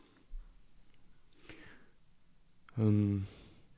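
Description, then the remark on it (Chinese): A single short cat meow rings out clearly and fairly loud near the end, after a stretch of quiet, faint clicking and mouth-like noises. “也许大家刚才听到一声猫叫，那是。Snow M 的标志。”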